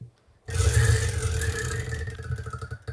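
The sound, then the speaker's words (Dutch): A prize wheel is spun hard, starting with a sudden rushing whir that turns into a rapid run of clicking ticks, which spread out and slow as the wheel winds down. No one speaks. “Ja, ik ben heel benieuwd wat het rad ons gaat vertellen. Dus zal ik eens een slingertje eraan geven?”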